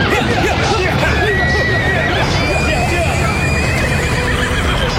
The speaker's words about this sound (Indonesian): Tapi pada saat itulah terdengar derap orang-orang berkuda mendekat. Ternyata mereka adalah Demang Surungo Marto dan pasukannya.